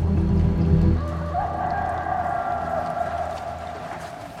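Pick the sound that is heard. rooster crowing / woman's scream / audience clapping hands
rooster crowing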